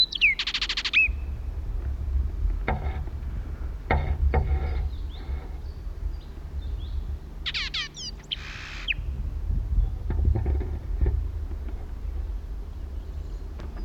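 Two short bursts of a blackbird's rapid, high chattering contact calls from some 120 feet to the right, near the start and again midway, over a steady low outdoor rumble with a few scattered clicks.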